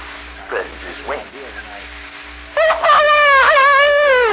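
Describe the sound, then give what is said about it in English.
A rooster crows in one long, loud, strained call with a wavering, quavering pitch, following a couple of a few seconds of quieter, brief vocal sounds over a low hum. “Crows wonderfully, you know.”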